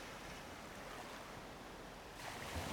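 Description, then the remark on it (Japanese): A steady wash of ocean surf at night, under moonlight, rolls on without pause, soft, swelling slightly brighter near the end as a wave breaks; no voices are heard. “わ、夜の海めちゃくちゃ綺麗じゃん。”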